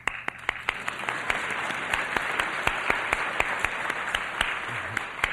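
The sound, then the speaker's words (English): An audience applauds steadily for several seconds, a dense wash of many hands with a few sharper individual claps cutting through at a fairly even level. No one speaks. “We do not just want to clap when we show clearly and expose the nature of the problem.”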